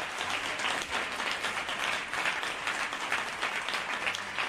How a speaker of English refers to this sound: Well, I want to thank Ellen Goodman for being with us today. Folks, let's give Ellen Goodman a big round of applause, if you would.